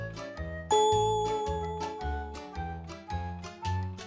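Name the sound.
loud bell ringing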